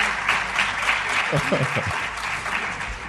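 Steady applause from a group at a radio programme broadcast from Córdoba, welcoming a guest, fills the whole stretch, a dense crackle of many clapping hands, with a brief voice or two rising underneath midway.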